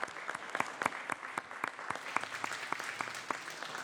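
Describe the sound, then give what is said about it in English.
A crowd of people clapping steadily, a dense patter of handclaps at moderate volume that holds even throughout without any voices on top, applauding visiting Zeta Phi Beta sorority officers. “Well, please give them a round of warm applause again.”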